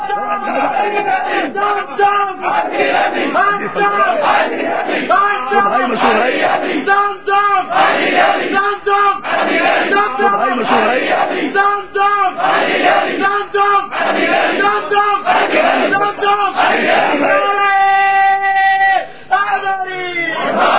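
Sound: crowd chanting slogans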